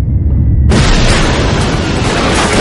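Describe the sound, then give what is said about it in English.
A deep rumbling gives way to a sudden, loud crash as an entire wall bursts apart, followed by a sustained roaring wash of flying bricks and plasterboard with no voices. “Suddenly, the entire wall disintegrated in a storm of flying bricks and plasterboard.”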